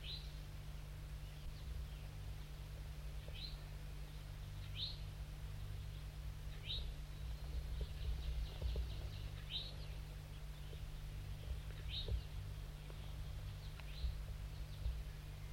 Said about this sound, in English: Start recording the wild birds now perched above the net set up. It's a gray one, a juvenile.